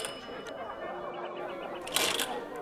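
An apartment doorbell, rung from the stairwell at a flat that housed the Tulenkantaja magazine's editorial office in the late 1920s, rings as a thin, buzzy electric tone with a quick run of evenly spaced pulses, followed by a brief, brighter rattling burst near the end. Moderately loud, with no talking.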